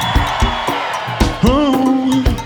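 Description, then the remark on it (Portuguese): A crowd shouts and cheers in a dense, continuous roar. One drawn-out whooping yell rises above the noise, and steady thumping beats run underneath. “Ou melhor, quem é do babado, levanta a mão e dá um grito.”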